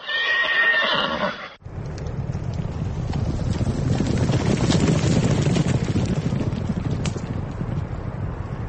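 At the first national horse race for the Tajikistan Cup 2009, a horse lets out a loud, high whinny for about a second and a half, then gives way to a steady, gusty rumble of hooves clip-clopping under wind noise. No one speaks.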